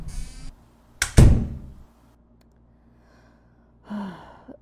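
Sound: door being closed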